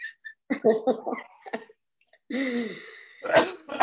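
A person coughs several times in short, throaty bursts, with a strained, voiced hack in the middle and a harsher, explosive cough at the end.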